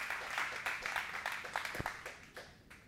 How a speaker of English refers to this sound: Anybody believe what I'm talking about in the house? If you believe it, would you clap your hands? Would you rejoice in it?